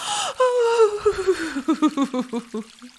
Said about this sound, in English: Oh, you are breathing hard, darling. I'm afraid you can't take this for much longer.